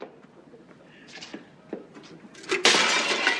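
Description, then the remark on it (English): A bowl is smashed on the floor in one sudden, loud shattering crash, followed by a scattered clatter of pieces after a few seconds of quieter thumps and rustling. “smashes the ball and goes, damn, damn, damn.”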